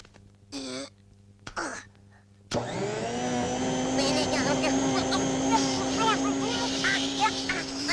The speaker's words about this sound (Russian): Утром рано уберусь, уберусь, уберусь. Пылесосом приберусь, приберусь, приберусь.